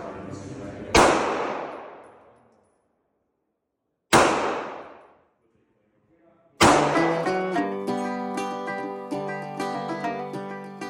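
gunshots

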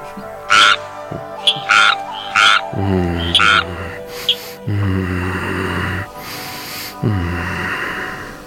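frog croaking

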